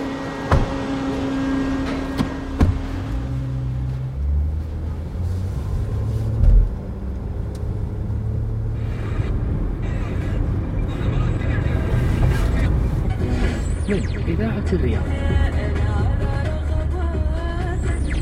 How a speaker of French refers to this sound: Dans Riyad, la circulation est souvent très dense. Les taxis ont du mal à se repérer dans cette ville de plus de 6 millions d'habitants.